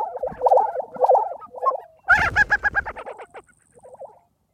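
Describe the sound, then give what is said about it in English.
A displaying grassland bird of the southern Great Plains, inflating red sacs on its neck and stomping its feet, gives its booming courtship call: quick bursts of hollow, bubbling, yodel-like notes, fairly loud, with one harsher rapid sequence in the middle and a softer phrase at the end. “And the sound is amazing too. It's called booming.”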